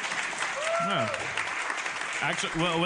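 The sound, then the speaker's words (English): An audience of people from Rhode Island claps in a steady, dense burst of applause that fills the whole moment, with a few voices calling out and whooping over the clapping. “Who do we have here that's actually a Rhode Islander? Clap. Don't raise your hand.”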